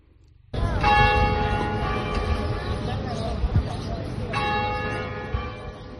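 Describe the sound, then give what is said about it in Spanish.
The large bells of Valladolid Cathedral in the centre of Valladolid, Spain, ring the hour, sounding loudly after a brief quiet start, their strikes overlapping into a rich, resonant wash of sustained tones, with a fresh peal near the end. “El pasado lunes, las campanas de la Catedral de Valladolid rompieron su silencio.”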